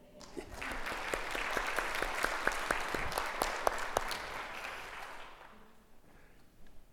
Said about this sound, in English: Shall we mark the birthday with a wee ripple of applause?